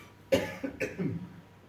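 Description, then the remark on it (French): Two short, harsh coughs half a second apart, each fading into a brief rough rasp, with no talking. “Ça vous arrive de tousser?”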